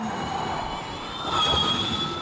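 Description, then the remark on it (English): A steady, high-pitched electric race car motor whine, with several sustained tones over a rushing wash of road noise, swelling a little louder past the midpoint. No one speaks. “And when you can hear, obviously there's the whine of the motors themselves, not the roar like a traditional motor, but that whine.”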